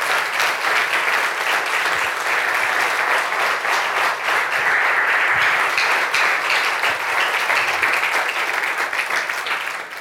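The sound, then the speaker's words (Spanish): A large audience at a pastor's religious service claps steadily and loudly for about ten seconds as applause for the Lord, a dense, continuous wash of applause with no voices standing out. “Dele fuerte ese aplauso al Señor.”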